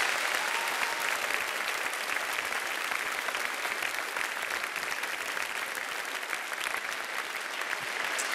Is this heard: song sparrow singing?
no